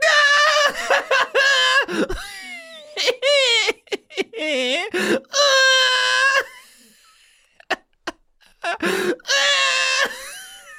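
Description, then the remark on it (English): A person screams in a series of loud, high-pitched, wavering bursts, separated by short gaps and quick breaths, with no clear words. “You're screaming.”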